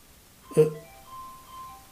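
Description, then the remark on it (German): A mobile phone rings muffled inside a jacket pocket: a short, brighter burst of tone followed by faint, thin sustained electronic notes at a few steady pitches, with no voices. “Also hier klingelt ein Telefon.”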